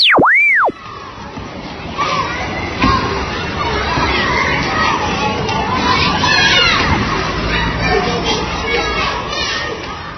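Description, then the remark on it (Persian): Busy outdoor ambience at an amusement park full of children playing and shouting, a steady crowd babble with bright cries rising throughout, opened by a brief springy boing-like swoop at the start. “اینجا شهر بازی، عجب شهر بازی هم هست، جات میخواهیم، پر از اسباب بازی های خوشگل و هیجان انگیز.”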